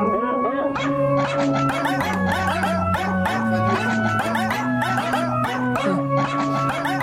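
Dog barks and yelps pitched into a catchy pop melody, layered over a steady musical backing, loud and continuous throughout with a bouncy rhythm and no talking.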